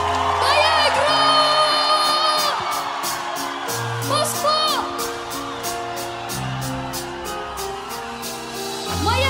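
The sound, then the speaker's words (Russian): A loud crowd cheers and whoops with high rising yells, while steady rhythmic clapping keeps time over a low sustained musical tone throughout. “Ваши аплодисменты нашему другу моему.”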